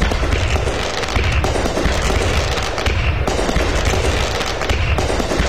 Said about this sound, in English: So we got fireworks going. You'll hear the sound of fireworks when you open up the tab there on our Facebook page, and you'll then get the listing to the fireworks displays